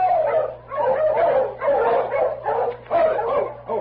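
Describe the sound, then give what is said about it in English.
A pack of sled dogs in Selkirk barks and yips in quick, overlapping bursts, fairly loud, with a few whimpering cries mixed in over a steady low hum. “These dogs look as if they've come a long way. Easy, King. Quiet, fella.”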